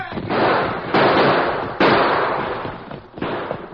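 Loud, roaring gunfire: four sharp blasts spaced unevenly, each followed by a long rumbling, noisy tail that fills the gaps between shots, with no voices.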